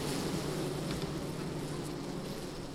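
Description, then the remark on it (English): A dense, steady drone of many honeybees buzzing inside an open hive, recorded up close, with a continuous layered hum that never pauses and no voices. “I'm going to put my microphone right next to the hive so you can all hear these bees.”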